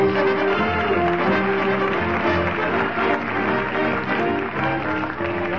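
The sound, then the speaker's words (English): A dense, continuous roar of crowd noise from a mob of late shoppers pushing through a busy department store, many voices blending into a loud, steady din, with no pauses or single voice standing out. “squirming and elbowing his way through the mob of belated buyers at the Von Ton department store, we find Fibber the Crowd Roars McGee”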